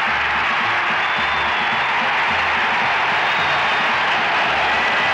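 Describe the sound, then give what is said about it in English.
A huge stadium crowd roars and cheers after a Raiders touchdown, as Charlie Smith catches a 32-yard pass from Stabler down the middle: a dense, steady wall of noise that holds loud and unbroken for the whole stretch. “The crowd comes apart at the seams as Charlie Smith catches one from 32 yards down the middle, the identical pattern and play that Smith ran and Stabler hit him on against the Dallas Cowboys.”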